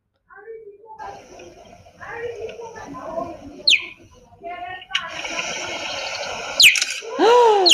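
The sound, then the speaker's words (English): A cheetah's high, bird-like chirping call, played from a YouTube video: a few sharp, rising chirps, one midway and a cluster near the end, heard over muffled background noise and indistinct voices. “So we actually have found what sound a cheetah makes.”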